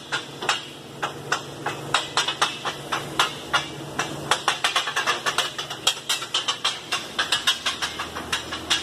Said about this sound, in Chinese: 装配好之后，锂电池供电一推杆就能转起来。这一转知识点又来了，它的高低压转子是反向旋转，这里面都是门道